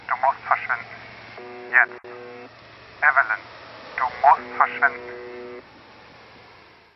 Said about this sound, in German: Gerade als sie dachte, es könnte nicht mehr bizarrer werden, bemerkte sie, dass die Worte aus dem Radio jetzt viel klarer zu verstehen waren als vorher. Angestrengt lauschte sie dem Rauschen.